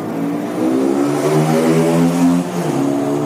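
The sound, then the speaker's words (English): A motorbike engine revs up loud, its pitch climbing in a steady rising whine before dipping slightly near the end, with no talking over it. “It sounded like you sort of rode away on a motorbike at the end of that”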